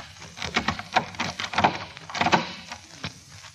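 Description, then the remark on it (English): A key scrapes into a lock and turns, giving a quick, irregular run of small clicks and rattles that ends as the door unlocks, a sound effect played as a quiz clue for the movie title Key Largo. The sound is fairly quiet and no one speaks. “Key Largo, because it's the key put in the lock and unlocking the door.”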